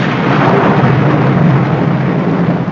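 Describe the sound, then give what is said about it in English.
Thunder rumbles through a loud, unbroken storm roar, a dense steady wash of noise that holds its level for the whole stretch with no voices. “It's quite on the cards that this storm may last all night, so we shall just have to make the best of a bad job.”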